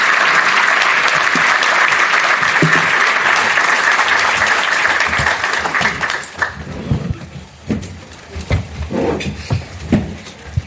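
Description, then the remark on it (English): An audience applauds a panel of program leaders being invited up, loud dense steady clapping for about six seconds, then it thins out into scattered claps and a few voices as it dies down. “So please join me in giving them a round of applause.”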